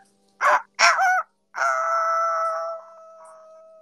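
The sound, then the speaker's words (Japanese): A voice imitates a rooster crowing: two short clipped bursts followed by a long, drawn-out, wavering cry that trails off, loud with no other sounds. “じゃあちょっと鶏の真似しますね。”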